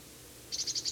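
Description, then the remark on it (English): A bird at the very top of a pine tree giving a type 3 call: a quick, evenly spaced run of about six high, chirpy notes that begins midway, heard on its own over a faint steady hiss. “It's giving a type 3 call.”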